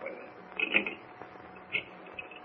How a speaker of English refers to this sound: What's that clicking noise, Ken? He's dialing a phone number.